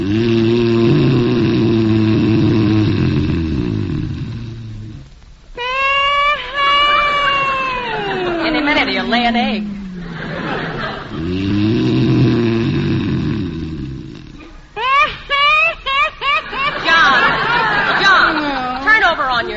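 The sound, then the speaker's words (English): Loud, exaggerated snoring by a man lying in bed in the darkness alternates between a deep, rattling rumble and a high, swooping whistle, twice in a slow rhythm, prominent with no talking. “You can stop that snoring if you want to.”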